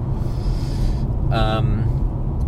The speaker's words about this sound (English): Oh, what's going on up here? A lot of traffic up here, folks.